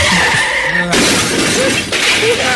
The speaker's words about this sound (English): He got into the car, and he crashed into a light pole on Hillsborough.